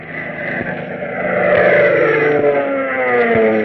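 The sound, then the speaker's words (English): A propeller plane engine drones steadily and loudly, its buzzing harmonic roar swelling slightly partway through and holding a constant pitch, with no voices. “Say, doesn't the sound of that plane motor do something to you?”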